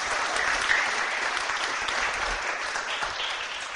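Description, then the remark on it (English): A crowd claps steadily in a round of applause, a dense, even wash of many hands that holds at a fairly loud level throughout, with no voices heard. “Let's give Nehemiah a round of applause.”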